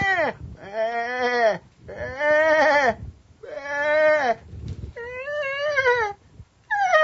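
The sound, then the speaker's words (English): Several loud, wavering sheep bleats follow one another with short pauses, overlapping like a flock calling, with no talking. “Can you imagine all those sheep there waiting?”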